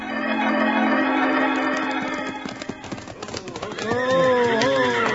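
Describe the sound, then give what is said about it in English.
Several horses clop to a halt as riders rein them up near the Springerville schoolhouse steps, hooves thudding in an uneven rhythm, then a loud whinny rises and wavers near the end over a low steady hum. “And now, Abner, Wild Bill, and Jingles are reining up their horses near the schoolhouse steps.”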